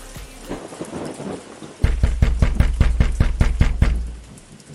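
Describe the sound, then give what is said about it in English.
Steady rain hisses on a cold day, then someone pounds on a door, police-style, with a rapid, evenly spaced run of about ten loud, heavy knocks before the rain carries on alone. “Whose door are you knocking on like the police?”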